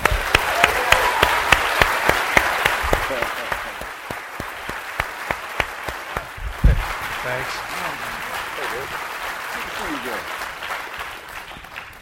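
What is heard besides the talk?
audience applause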